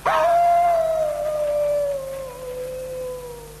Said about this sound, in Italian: Lupo ulula. Lupo ulula? Là? Cosa? Lupo ulula e castello ululì.